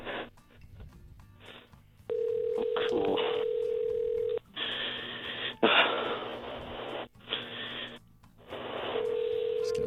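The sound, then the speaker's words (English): A phone line ringing out on an outgoing call: long, steady ringback tones separated by pauses, heard through a thin, hissy connection with faint muffled noise and nobody picking up. “Okay, let's see if she answers. Here we go again.”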